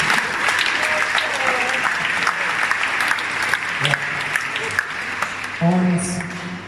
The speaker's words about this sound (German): Können wir mal einen Applaus geben.